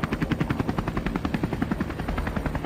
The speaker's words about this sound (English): The helicopter spotted them and started to land.